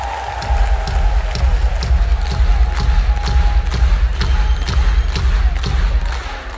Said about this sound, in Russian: Весь наш коллектив, вся наша команда присоединяется к этим аплодисментам. С днем рождения вас!